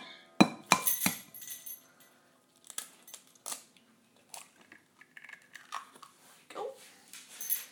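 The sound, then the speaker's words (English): A raw egg cracks open with a couple of sharp crunches, followed by quieter scattered clicks and shell rustling as it's pulled apart. No one speaks. “Just break this.”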